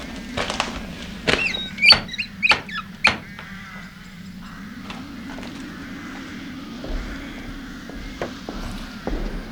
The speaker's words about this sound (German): Das ist jetzt egal. Ich klopf trotzdem mal.